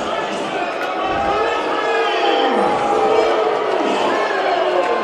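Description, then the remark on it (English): A Charleston RiverDogs baseball crowd lets out long, sustained "wooo" calls, not boos, for batter Wu Shin, many voices swelling and gliding up and down in pitch together over a steady roar of stadium noise. “As the Charleston crowd is not booing, they're wooing.”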